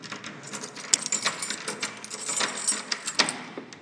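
Keys jingle and clatter in a busy metallic rattle, with several sharp bright clinks standing out over a few seconds; no one speaks.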